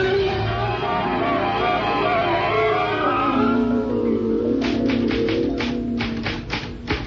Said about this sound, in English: Oh, I'm typing your letter to the President of the United States and a copy for the Premier of the Soviet and the Prime Minister of China.